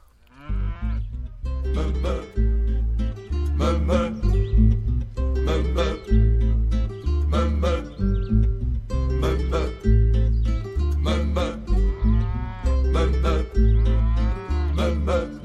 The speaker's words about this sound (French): Bon, on se fait une petite virgule musicale, une petite pause, une musique salon d'agriculture et on passe à la suite.